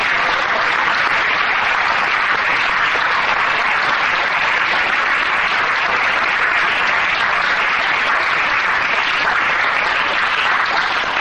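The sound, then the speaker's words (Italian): Steady, dense applause from a sizable audience fills the whole stretch, loud, a continuous crackle of many hands clapping with no voices on top, given to thank a speaker. “Allora, beh, direi di ringraziare con un applauso”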